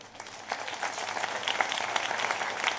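A crowd claps politely after a speech, a steady patter of many hands at moderate volume that stays fairly even throughout, with no voices or cheering.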